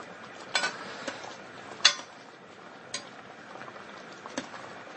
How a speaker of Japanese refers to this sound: それでまあ帰宅後今ルーを投入して煮込みながらかき回している状態です。